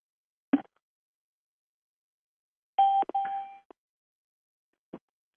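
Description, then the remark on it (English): Telephone dialing tones on a line while joining a conference call: a sharp click, then a steady electronic beep lasting about a second with a click breaking it, followed by a few isolated clicks. No one speaks. “I'll call. I'm using this phone line.”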